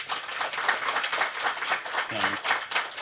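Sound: audience applause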